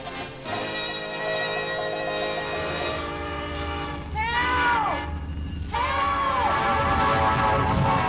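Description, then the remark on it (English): A train rumbles as its horn blares in sustained, harmonic blasts, with two rising-and-falling swoops of the horn near the end over the steady roar of the rails. “Rescued the heroine from the tracks of the onrushing train.”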